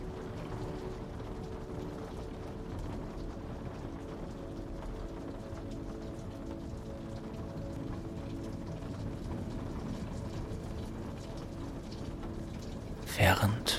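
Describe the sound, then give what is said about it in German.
Steady, dense patter of rain over a low, rumbling roar of a stormy sea, continuous, ending with a brief louder splash or gust. “dich unter die Decke kuschelst, lauschst du dem Prasseln des Regens und dem stürmischen Meer.”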